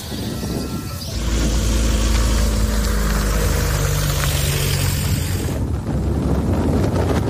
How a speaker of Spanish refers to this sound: Los camiones, el viento que sopla en los micrófonos, pero prácticamente nada arrasado, un silencio sucio.